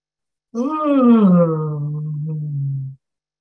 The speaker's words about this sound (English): So we're going to do a big yawn, all of us, and it's going to be.